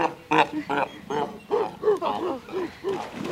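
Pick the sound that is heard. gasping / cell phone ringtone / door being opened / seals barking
seals barking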